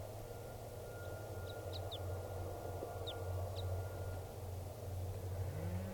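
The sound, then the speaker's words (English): A few short, high 'kip' calls of a wild type 2 crossbill, spaced irregularly over a steady low rumble of traffic or engine noise. No one speaks. “Bird's not calling very much, but that is him, the wild bird, type 2 there.”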